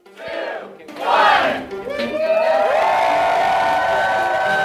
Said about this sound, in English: People in Canada are cheering, enduring long lines and honking their car horns in support of the country's first marijuana dispensaries.